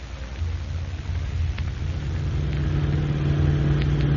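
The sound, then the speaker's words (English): A car engine rumbles low and steady, growing louder and fuller as the car is taken out of the garage and drives off, with no voices over it. “Get my car out of the garage. Hurry up.”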